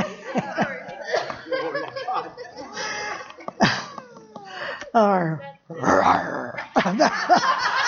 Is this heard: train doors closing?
no